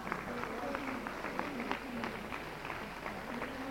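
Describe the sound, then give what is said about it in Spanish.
Audience applause: a steady, dense wash of many hands clapping at an even loudness for the whole stretch, with a faint murmur of voices mixed underneath. “Ay, muy bien, dense un aplauso, ¿están despiertas?”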